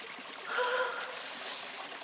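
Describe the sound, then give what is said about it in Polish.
A steady, soft rush of a clear, cold flowing stream, a continuous hiss that swells slightly in the middle, with faint tonal gurgles near the start and no voices. “Och, tu jest strumień.”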